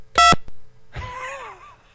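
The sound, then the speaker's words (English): A single short, loud touch-tone beep from an old phone's keypad as a phone number is dialed, followed by a brief pause and then a softer, wavering electronic tone that trails off. “Give me the phone number. We're calling.”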